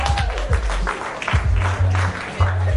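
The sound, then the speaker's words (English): An audience claps together in a steady burst of applause that fills the room, with some low rumbling thumps underneath and no one speaking. “I think you should give yourself a round of applause for being so sharp.”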